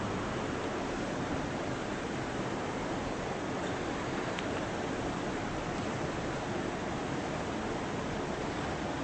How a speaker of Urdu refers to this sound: یہ والے پنکھے بند کر دیں ذرا، شور بہت ہو رہا ہے.